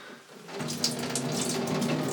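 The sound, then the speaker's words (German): Water pours steadily onto a cheap disposable diaper as a second liter is poured on after it has already absorbed one liter. A continuous splashing gush starts after a brief quiet moment and keeps going without any talking. “Da hat die billige Windel jetzt tatsächlich 1 Liter Wasser geschluckt.”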